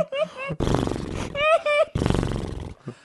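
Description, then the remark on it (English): A person mimics a horse neighing, with wavering, whinny-like cries broken up by rough, breathy snorting bursts, loud over about three seconds. “The four men and the horse go up to the lifeless body. The horse says.”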